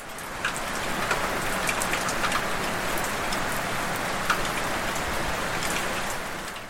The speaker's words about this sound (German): Ah, ich muss einmal ganz kurz, weil das ist so schön, dass man hier den Regen so hört. Ich muss einmal ganz kurz, was ihr im Hintergrund leise hört, das ist der Regen. Ich mach's nochmal einmal ein bisschen klarer.